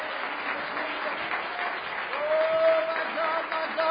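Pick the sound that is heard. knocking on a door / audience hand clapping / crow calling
audience hand clapping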